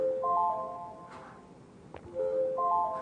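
A Windows long toast notification shown on screen plays its chime as a short series of bright, melodic electronic tones, then repeats after a pause, with a faint click in between over a low background hum.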